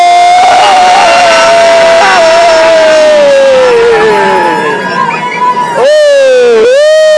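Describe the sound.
A loud horn blast, sounded for about three seconds to let people know a group is coming into the water, drones with its pitch slowly sagging over crowd noise, before it gives way to a burst of high, swooping screams from many voices.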